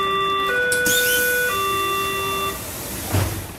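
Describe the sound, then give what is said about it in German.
A Berlin S-Bahn door warning chime plays three steady electronic tones, C, E and C, each about a second long, the middle one higher, then ends, leaving a low rumble and a brief thump. The chime has been used on Berlin S-Bahn trains since 1986. “Ieben, nach eigener Aussage unmusikalisch, und seine Kollegen haben dann den ikonischen Zweiklang aus C, E und C entwickelt, der ab 1986 bei den Berliner S-Bahnen eingesetzt wird.”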